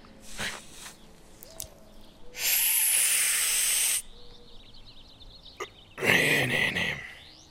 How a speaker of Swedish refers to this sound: vi har precis tänt vår första joint här på Summer of Love i Nykarleby